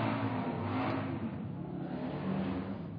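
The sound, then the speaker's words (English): A Harley-Davidson motorcycle engine rumbles loudly and steadily with deep throbbing low tones, its revs swelling and easing slightly over about three seconds, with no one talking. “God created Harley Davidson motorcycles as well.”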